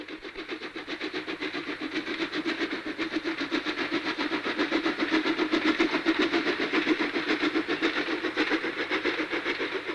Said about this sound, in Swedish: Då är det dags för en podd av järnvägshistoria igen och idag ska vi prata om järnvägsljud.